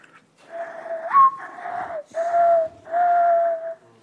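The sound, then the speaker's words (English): A person whistles a breathy imitation of a mourning dove's coo with both hands cupped around the mouth: four low, hollow notes, the first swooping upward and the last three held long and steady, with no talking. “Morning dove.”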